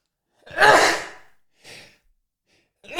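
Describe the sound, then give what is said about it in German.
A loud, breathy sneeze in a studio bursts out with a voiced, noisy blast lasting under a second, followed by a short, softer breath or sniff and then another brief breathy sound starting at the end. “Der Satz stößt mir so auf, dass ich direkt schon niesen muss.”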